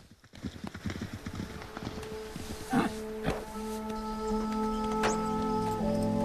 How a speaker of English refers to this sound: As Channing comes over to Stripes, two horses gallop past. They both watch the horses.